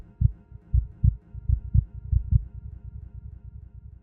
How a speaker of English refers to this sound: I wanted the whole piece to feel like it was being dragged into existence. The combination of the cello, staccato and pizzicato parts together gives the illusion of a heartbeat quickening as the piece comes to an end.